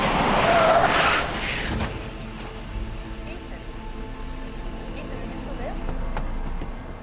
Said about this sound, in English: Spotting something, he slams on the brakes.